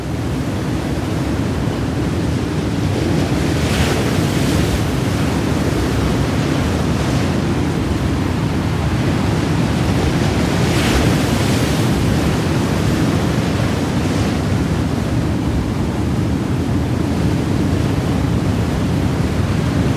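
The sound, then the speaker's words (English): A constant, loud roar of rough surf and driving wind from a storm at the Fastnet lighthouse fills the whole recording, with occasional bursts of heavier wave crashes against the tower swelling above the steady stormy wash. No voices are present. “When a wave would hit the tower, it would just leave the lantern sticking out on the top.”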